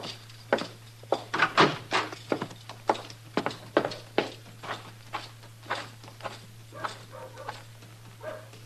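Horse hooves clop along a street as a rider comes up leading a second horse, in a steady walking rhythm, sharp knocks coming in pairs and clusters over a low constant hum, with no voices.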